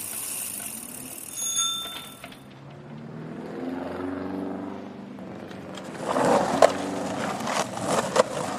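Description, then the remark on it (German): A bicycle rolls past with whirring tyres and a rattling chain, its bell ringing a few bright high dings at the start, then clicking and clattering as it passes. No one speaks. “Hörst du das? So klingt ein Fahrrad.”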